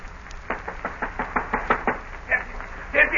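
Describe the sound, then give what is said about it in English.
A rapid series of sharp knocks on a wooden door, about eight raps in quick even rhythm, loud, followed by a couple of heavier, scuffling thumps. “Open the door. Quick, Captain.”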